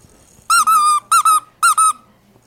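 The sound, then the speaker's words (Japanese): A squeaky baby toy is squeezed, giving three loud bursts of high, bright squeaks, each burst made of two quick squeals in a row, with quiet pauses between and no talking. “なんかこれすごい赤ちゃんのおもちゃみたいなの。”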